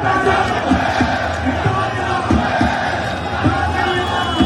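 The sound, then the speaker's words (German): A loud, dense crowd of an estimated 30,000 Syrians at a street demonstration in the city centre, marching from the Opera along the Ring to Parliament, celebrates the end of the dictatorship, setting off bangers and fireworks, with many voices shouting and chanting over a constant roar and scattered cries rising above the noise. “Die Demo war friedlich, aber laut.”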